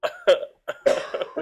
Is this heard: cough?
yes